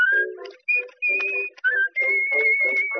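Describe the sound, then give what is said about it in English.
A girl whistles a bright, melodic tune through puckered lips in several short phrases with brief pauses, clear, with low accompanying tones underneath. “Ah, girl, taking a chance when she whistles like this. Her mouth puckered up as if asking a kiss.”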